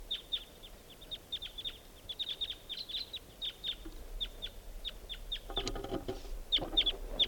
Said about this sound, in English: I hear pair birds. A lot of crossbills around here.